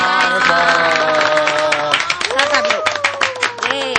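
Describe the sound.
Loud, energetic applause from four guests, with rapid, dense claps running the whole time while voices cheer and call out over the clapping.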